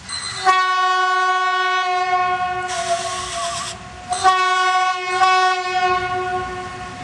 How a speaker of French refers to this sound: J'ai aimé la course d'école parce que les trains allaient vite et aussi parce que on a pu faire plusieurs tours.